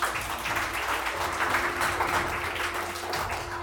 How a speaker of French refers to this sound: Aux élèves, je dis bravo, bien sûr, vous pouvez vous applaudir.